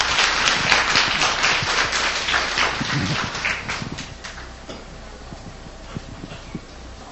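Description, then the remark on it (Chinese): An audience claps warmly to welcome a speaker to a popular-science lecture, a dense patter of hands that starts strong and gradually thins and fades over several seconds, with no voices over it. “现在我们就以热烈的掌声欢迎”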